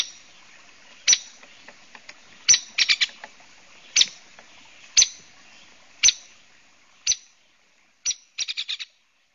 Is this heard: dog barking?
no